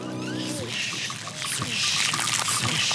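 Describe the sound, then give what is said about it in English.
Water runs steadily from a garden hose, a continuous hissing splash that grows a little louder partway through, with a brief voice at the start. “Oh yeah, the hose, that's a good idea.”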